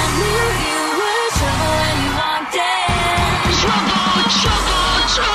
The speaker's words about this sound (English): In the 30 seconds before I go on stage, when I hear that scream, I want to get on stage right now.